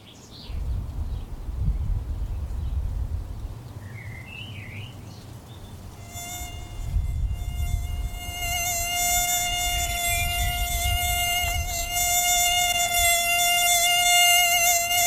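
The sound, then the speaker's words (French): A steady, high-pitched mosquito whine fades in partway through and holds loud to the end, droning over a low background rumble with no one speaking; a mosquito from the ARIM collection of medically important arthropods at the IRD, Agropolis campus. “ARIM, c'est la plus grande collection d'arthropodes d'intérêt médical d'Europe, et Philippe Boussès nous emmène voir ses tiques et ses moustiques.”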